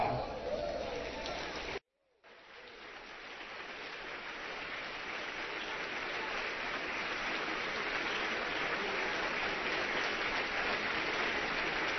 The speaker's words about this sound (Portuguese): Vocês aplaudem o Senhor e nem celebram o seu nome. Como pode isso?